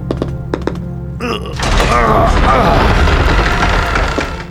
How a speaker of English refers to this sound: He pushed the door open and entered the reception hall with his sword at the ready.